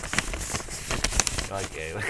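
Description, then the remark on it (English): A mouth imitates rustling paper into a microphone with irregular crackly, hissy bursts and sharp little clicks at moderate loudness, ending with a short voiced murmur. “he's making a paper sound here, right? Yeah, on the mic.”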